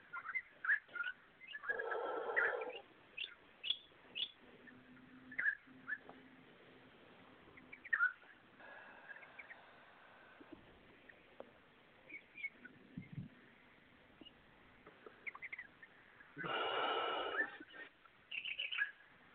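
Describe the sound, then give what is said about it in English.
Birds sing and chirp in scattered bursts throughout, fairly faint, with a couple of louder, rougher calls standing out now and then. No one speaks. “That, whoever has all those beautiful birds singing, thank you.”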